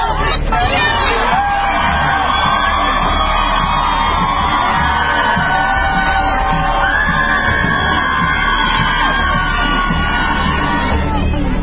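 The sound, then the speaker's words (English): A loud crowd of protesters yells and shouts together, chanting 'Nazis, racists, can't get jobs!', voices overlapping in a dense, continuous roar with rising whoops and cries, sustained throughout. “They'll come up to you and just yell and scream.”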